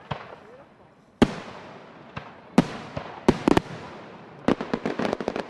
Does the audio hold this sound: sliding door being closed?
no